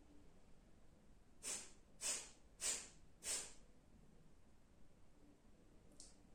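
Four sharp, forceful nasal exhalations, like stifled sneezes, come in a quick, even rhythm about half a second apart, loud against a quiet background, with no talking: a person demonstrating an energizing morning breathing exercise.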